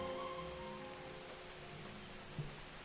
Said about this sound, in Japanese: なるほど、いきなり濡れちゃった、濡れちゃった、雨降ってきちゃったからね。